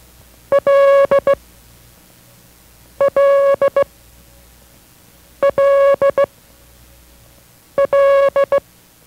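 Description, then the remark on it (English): International Morse code letter L sent as a steady beeping tone, one short, one long and two short pulses, repeated four times with pauses between, clear and fairly loud with no voices. “This is L as in love. Listen carefully to the sound of L as in love.”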